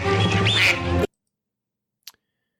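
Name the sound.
duck quacking sound effect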